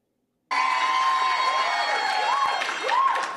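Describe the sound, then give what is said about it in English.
An audience at a presidential candidate's speech cheers and yells loudly and continuously, dominated by high-pitched, shrill voices, with a few rising whoops standing out near the end. “Sounds very female heavy in the audience.”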